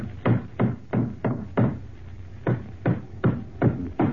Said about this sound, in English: All right, I'll put the floorboard back in place now. I'll hammer these nails in and that'll be sound again.